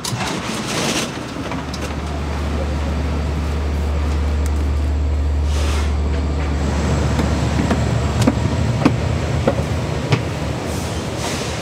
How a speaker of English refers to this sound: We just got onto a fancier train with higher head rests and 2 stories and a bathroom.